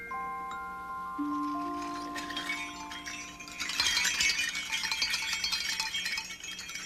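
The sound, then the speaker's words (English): A small ceramic bell shaped like a face rings out with clear, sustained overlapping tones, then shifts to a brighter, busier clinking and rattling jangle for the last few seconds. No voices. “A bell that looks like a face.”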